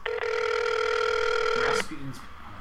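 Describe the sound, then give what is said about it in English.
A single long ringback tone on an outgoing phone call, steady and fairly loud, heard through the line; it cuts off and a voice briefly starts talking. “He might pick up, but we might get his answering machine.”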